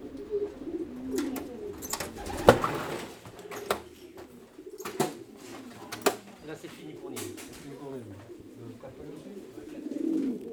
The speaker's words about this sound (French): La colombophilie, c'est, bah, écoutez, c'est l'élevage de pigeons voyageurs. Parce que ce pigeon, on le prend, on le lâche à une certaine distance. Le but, c'est quoi? C'est qu'il rentre le plus vite possible par rapport aux autres.